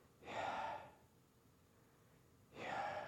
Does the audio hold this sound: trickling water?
no